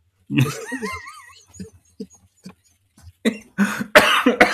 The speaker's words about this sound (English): I made you cough. That was very funny.